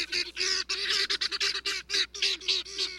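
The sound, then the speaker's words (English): A helmeted guinea fowl's harsh, raucous calls repeat in a rapid, chattering series of loud, grating bursts, with no voices present. “But from Senegal to South Africa, where the birds are native, their raucous calls are a familiar sound.”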